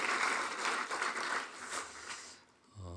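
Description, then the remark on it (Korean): A church audience applauds the praise team at a year-end Sunday service, with dense, steady clapping from many hands for a couple of seconds before it quickly dies away, and a low sustained tone enters at the end. “우리 찬양단을 위해서도 한번 박수 한번 해주시겠습니다.”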